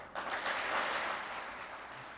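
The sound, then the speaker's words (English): Applause from officials of Turkey's ruling party as President Recep Tayyip Erdogan speaks, a dense, steady wash of many hands clapping that starts abruptly and holds at a fairly even level for about two seconds, with no voices heard. “As officials of his ruling party applauded, President Recep Tayyip Erdogan said,”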